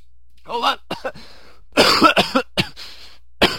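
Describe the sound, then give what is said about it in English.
A person coughs repeatedly in harsh bursts, with a throat-clearing sound early on and a cluster of rough coughs in the middle, ending with one more sharp cough. “Delete that, would you? The coughing?”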